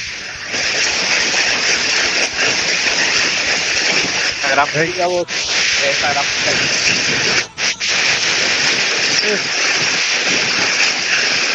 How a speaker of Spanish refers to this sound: ¿Y a dónde es que está cayendo el pijazo de agua, pues? Aquí en mi casa está lloviendo, maje.